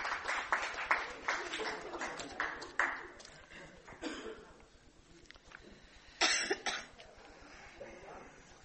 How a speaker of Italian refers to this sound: Faccio un applauso, ben arrivato.